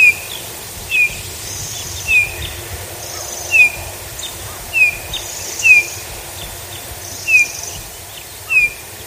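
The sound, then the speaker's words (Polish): A Eurasian bullfinch gives soft, short whistling calls, repeated about every second or so in a steady series, clear against a quiet outdoor background with no talking. “Takie pogwizdywanie, które przed chwilą Państwo słyszeli, jest charakterystyczne dla ptaka, które w większości z nas kojarzy się właśnie z zimą dla gila.”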